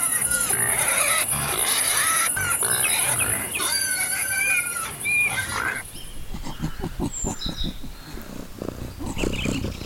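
A pig grunts and snorts in a quick rhythmic series of gruff pulses, following a busier stretch of mixed animal calls and high chirping.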